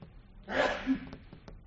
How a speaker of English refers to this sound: That's not a question. That's a sneeze. Bless you.